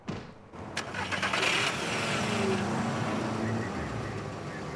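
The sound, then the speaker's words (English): A car engine starts up and revs into a steady rumble as Sasha drives his car away with Chrissy beside him, the broad mechanical noise holding fairly loud for several seconds. “Dan watches Sasha climb into his car next to Chrissy, then he walks off alone.”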